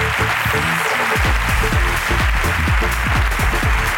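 A crowd applauds steadily and loudly for several seconds, a dense, continuous wash of clapping with no voices rising above it.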